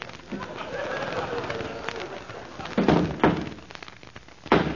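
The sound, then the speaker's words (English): A horse named Dandy kicking up his heels in his locked stall: three heavy, dull thuds land at irregular intervals, loud and booming, over a steady low murmur of background noise. “That's Dandy kicking up his heels.”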